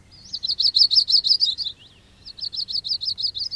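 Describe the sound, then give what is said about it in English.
A warbler sings two quick phrases of high, bright, evenly repeated notes, separated by a short pause. The song is clear, with no voices. “You'll see flycatchers flycatch, darting out from a branch to catch a bug in the air, and warblers warble, although sometimes it's hard to catch them in the act.”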